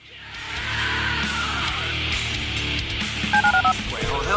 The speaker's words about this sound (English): Dial the phone.